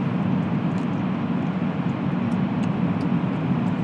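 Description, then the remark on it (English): A vehicle travels through a road tunnel about half a mile long under the River Lee in Cork: a steady, unbroken roar of engine and tyre noise with a dense, rain-like hiss over a heavy low rumble, loud and constant throughout, with no voices. “I'm now travelling under the River Lee in Cork. I'll give you a chance to hear the sound.”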